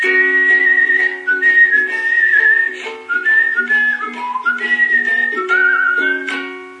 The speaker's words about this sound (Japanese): それを、 この口笛部分をオカリナで単純化してやり ましょう。っていうこと。